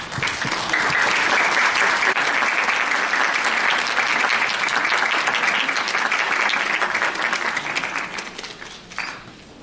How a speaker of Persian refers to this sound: ولی قبل از هر چیز وجود و حضور جناب استاد وزیری برای همه ما محترم هست، با تشویق مجدده.